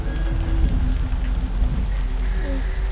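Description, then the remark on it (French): A sudden dense wall of rain pours down continuously, a steady hiss with heavy low thunder rumbling in the sky underneath, and a faint long tonal moan drifting through the rain, seeming to come from the basement walls of a castle. “Alors qu'un autre grondement résonnait dans le ciel au-dessus de lui, il entendit aussi une longue plainte dans la pluie, qui semblait provenir des murs de soubassement du château.”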